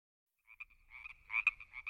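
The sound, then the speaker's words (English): Frogs from a big lake near a town, where they are very common, croaking in a dense, overlapping chorus of bright, raspy pulses that swell and dip, rising to a louder burst near the end, with a faint low rumble underneath. “Those are the frogs. There's a big lake near our town.”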